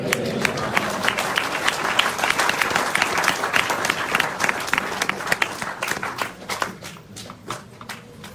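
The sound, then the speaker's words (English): An audience gives one more big round of applause for His Holiness Bhaktivedanta Govinda Swami. A dense wash of many hands claps at full strength, then thins out over the last couple of seconds into scattered individual claps. “One more big round of applause for His Holiness Bhaktivedanta Govinda Swami, everybody.”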